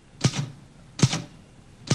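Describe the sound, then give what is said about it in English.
Slow, hesitant typing with one finger: three separate, sharp key strikes spaced almost a second apart, crisp, each with a brief clacky rattle and nothing else in between. “Bill is typing with one finger”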